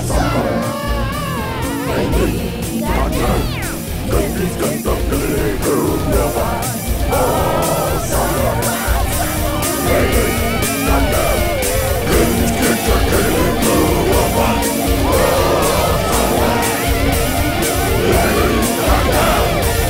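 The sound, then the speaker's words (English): A loud, energetic song plays continuously, with a steady driving beat, dense layered instruments and raucous, shouted-sounding vocals filling the full twenty seconds. “You can find that song on our website”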